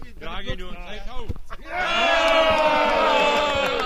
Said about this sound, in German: Ja, und wem dieser Jubelsturm nun gegolten hat, das bleibt hinter unserer Diskretion verborgen.